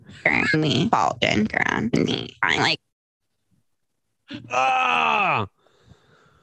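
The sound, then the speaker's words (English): A rapid string of short, raspy vocal fry croaks, taken from the ends of a woman's words and spliced together, followed after a pause by one longer, drawn-out creaky croak that slides downward, all fairly loud. “They're the end of words when she's croaking, and put them all into one croak supercut.”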